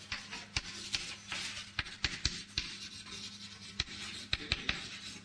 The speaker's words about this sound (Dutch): Nou, dan schrijven we dat maar even op, dan weten we dat.